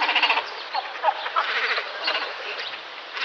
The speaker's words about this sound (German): das war ein Kormoran, ebenfalls von der NABU-Webseite